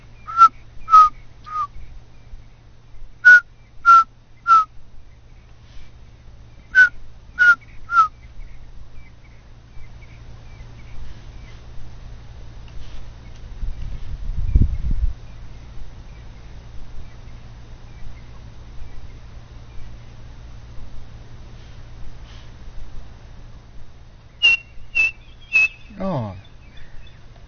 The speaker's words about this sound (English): A little black and white bird with a chestnut band across its white breast, and it's got quite a characteristic call. I think keep the recorder running, because I think if we're lucky we might get to hear it. It makes a call, three blind mice.